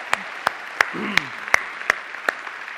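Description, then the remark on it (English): Steady, evenly spaced claps ring out, about seven sharp hits at a slow rhythm, moderately loud, with a faint murmuring voice briefly underneath; the applause is for a couple married for 50 years. “They deserve a round of applause for being an example for us, yeah?”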